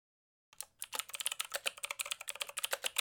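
Rapid, steady typing on a computer keyboard, a dense run of crisp key clicks starting after a brief silence and continuing quickly and evenly, close and clear with no voices.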